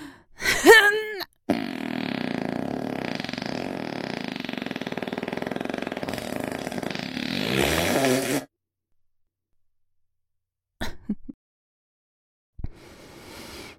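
A long, loud fart rasps and rumbles for about seven seconds, preceded by a brief burst of noise, then a few short faint sounds after a pause.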